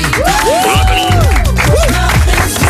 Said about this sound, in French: Applaudissements